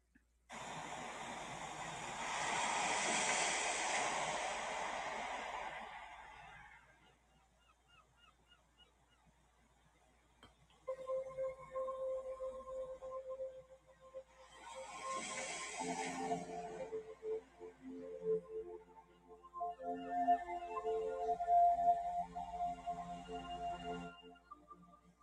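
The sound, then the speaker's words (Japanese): Underwater ocean ambience played as a sea meditation for a short mindfulness session: a broad, rushing wash swells and fades, then a low steady hum carries drawn-out tonal calls and murmurs that rise and fall. No one speaks. “海の中の瞑想を聞きながら、はい、マインドフルネスショートバージョンやっていきたいと思います。”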